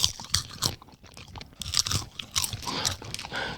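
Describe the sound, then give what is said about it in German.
Crackly chewing with bursts of sharp, fizzy pops and crunches, irregular and fairly loud, like popping candy crackling in a mouth. No one speaks. “Ach, wie dieses Zeug, was man sich in den Mund stecken kann. Ja, wie diese Knisterbrause oder...”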